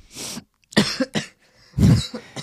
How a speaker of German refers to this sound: Der Mann, der da hustet, ist mein Sohn. Der hat sich erschreckt, weil ich auf Aufnahme gedrückt habe. Jetzt hustet er.